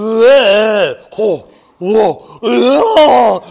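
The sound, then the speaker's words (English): A person's voice imitates a giant dragon's roar: four loud, drawn-out growling bursts that swell and fall in pitch, separated by brief pauses, with no other speech. “But now suddenly, once in a generation, a giant dragon.”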